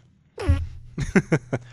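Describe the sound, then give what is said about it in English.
A squeaky, tonal fart rises briefly in pitch, then after a short pause breaks into a quick sputtering run of four or five short bursts, close and fairly loud. “when I fart, it whistles because the flag, like, I can hear the ocean in your butt.”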